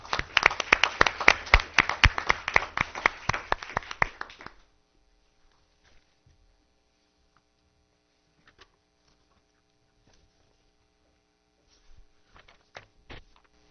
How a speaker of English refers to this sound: So I want to give a round of applause for all both of you have done for our district. Thank you so much.